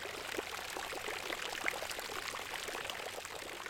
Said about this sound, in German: Über 700 Brunnen gibt es im Stadtgebiet von München. Ein paar von ihnen sind sogar weltberühmt. Alle haben's ihre eigene Geschichte und sie plätschern auch in ihrer eigenen Brunnensprache.